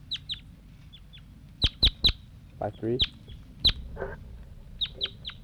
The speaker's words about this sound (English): The bird just flew over. I think it was one of those juveniles.